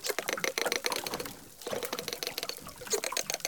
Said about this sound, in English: And these animals are in sync at 600 beats a minute. The researchers sent us the dolphin sounds that they recorded. Here is one dolphin singing alone. And here are the dolphins singing together.